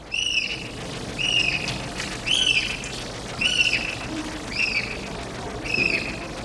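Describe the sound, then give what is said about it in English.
Aquatic birds at a wildlife rescue center in San Pedro, Southern California, that rehabilitates aquatic birds, call out in a steady series, six short, sharp, harmonic cries about a second apart, over a constant hissing background with no voices. “The International Bird Rescue, as it's called, specializes in rehabilitating aquatic birds.”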